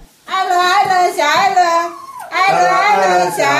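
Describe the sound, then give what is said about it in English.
A small white dog named Ellen sings on command at a family dinner table, with loud, wavering, high-pitched howls in two long drawn-out phrases. The tone slides up and down with a brief break between phrases and no talking. “Ellen has one trick that she can normally do on command. Everyone here is yelling, sing, Ellen, sing, sing.”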